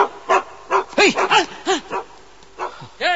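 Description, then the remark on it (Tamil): A mangy dog barks in a quick, irregular series of about eight sharp, fairly high-pitched yips, each rising and falling in tone, with short gaps between them and no talking. “ஃபேமிலியோட நடத்துறீங்க, ஆட்டுக்கல் மாதிரி ஒரு அம்மா, ஒற்றை குச்சி மாதிரி ஒரு அக்கா, பத்தாவதுக்கு இந்த பேரஸ பாதுகாக்கிறதுக்கு ஒரு சொறி நாய்.”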